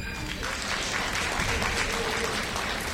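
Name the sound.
audience clapping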